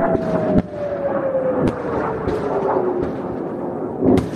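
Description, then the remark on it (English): Loud explosions from incoming rockets, recorded on a phone: several sharp booms over a continuous rumbling roar, while a steady whistling tone slowly falls in pitch across the whole stretch. No one speaks. “He's been recording the incoming rockets on his phone all week.”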